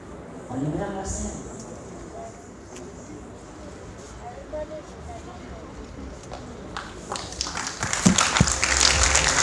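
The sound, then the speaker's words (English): Voices murmur over a low crowd hum, then scattered claps build into a dense, loud wave of audience applause that fills the final seconds. “Les applaudissements, s'il vous plaît.”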